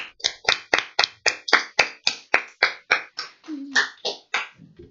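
Steady, rhythmic clapping, about four claps a second and fairly loud, keeps an even beat for several seconds before tapering off at the end.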